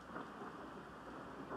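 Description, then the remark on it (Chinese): A recorded rain-and-thunder white noise soundscape played at night: a steady, dense wash of falling rain with a soft low rumble underneath, unbroken and fairly quiet, with no voices. “今天晚上没有下雨，我放的音乐白噪声。”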